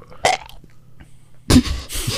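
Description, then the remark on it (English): A short, choked, stifled burp-like sound, fairly loud, followed by a rough, throaty gagging rasp, like someone hacking up a hairball. No words are spoken. “You know, it was like, I thought I was going to burp, but it was just like... Sounded like you had a hairball.”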